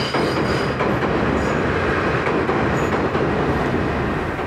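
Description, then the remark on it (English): A train rumbles past across a rusty bridge south of the Sky Tree, a steady, loud roar of wheels and rattling cars filling the whole stretch, with faint metallic squeals riding on top and no voices. “oh, here goes a train across the rusty bridge.”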